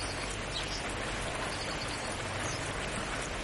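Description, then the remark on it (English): Steady rain falls in a continuous, even hiss with a faint patter, fairly soft and unbroken throughout, with no voices. “Bask in the rain”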